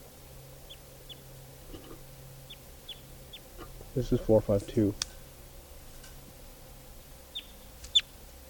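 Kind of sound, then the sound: bird, wild birds calling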